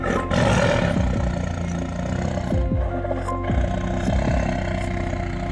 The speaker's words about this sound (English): Prison camp did not have any windows or doors, so the tiger roars must have petrified the prisoners.